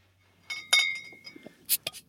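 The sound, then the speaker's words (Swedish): Two glass bottles of Azalea lager beer clink together several times in quick, uneven knocks, fairly sharp, with a brief bright ring lingering after the second clink and a cluster of clinks near the end. “Jag har två flarror här.”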